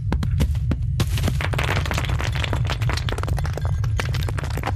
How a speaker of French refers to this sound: Ça, c'est une ambiance proche d'un volcan, éboulement, crépitement. C'est des petits crépitements, oui. Enfin, pour moi, c'est pas très spécifique d'un phénomène.